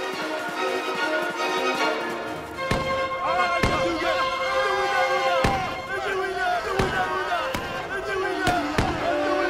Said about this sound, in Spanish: Los derribaron a balazos. Solo dos huyeron despavoridos a sus canoas.